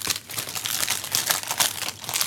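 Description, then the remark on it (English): Plastic wrapping being torn and crinkled off a package, a steady crackling rustle with brief louder bursts over about two seconds. No one speaks. “He has the plastic off.”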